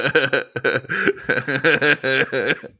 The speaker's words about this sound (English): Oh yeah, cough it out.